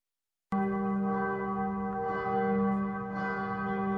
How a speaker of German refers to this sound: Der Kölner Dom ist 157 Meter hoch. Im Turm sind 12 Glocken. Die Petersglocke ist die größte.